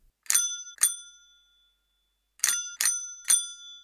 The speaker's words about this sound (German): Dazu noch ein paar Mal mit einer Fahrradklingel klingeln.